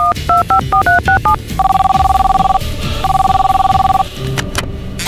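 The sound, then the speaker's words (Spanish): A quick run of dialing tones beeps out, followed by two long, steady ringback tones of an outgoing phone call, clear, with faint low murmuring underneath. “A ver, ¿de quién tengo el teléfono? Oscar Mel, del podcast de Jokes in Spanish. Voy a hablarle.”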